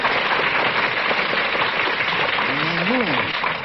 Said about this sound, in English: A round of applause for the folks in Abilene.